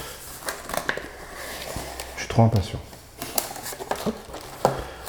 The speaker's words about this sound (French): On va le déballer ensemble. Hop, le carton est juste devant moi. J'avais déjà évidemment enlevé le scotch pour t'éviter tout un tas de bruits inutiles.